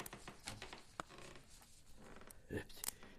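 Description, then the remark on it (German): Quiet paper rustling and shuffling as Watson gently sets down a stack of papers, with a few soft taps and brushing sounds over about three seconds. The sheets had been experimented on with a new chemical that proved highly explosive. “Hudson hier und da etwas aufräumt oder hier einfach die Papiere Watson, einen Stapel zusammenlegt?”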